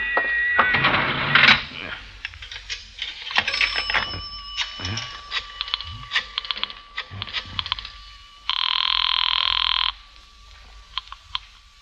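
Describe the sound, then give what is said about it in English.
A public telephone being dialed: a run of sharp mechanical clicks and clatter, then one steady buzzing ring lasting over a second, followed by a few more scattered clicks. “There is a public telephone over there, Effendi.”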